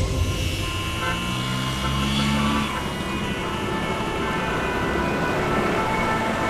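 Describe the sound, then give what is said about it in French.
Car horns honk repeatedly over a dense, steady rumble of traffic in a Paris traffic jam, with long sustained blasts overlapping one another in a loud, congested street scene. “¿Más rápido? ¿Con este atasco?”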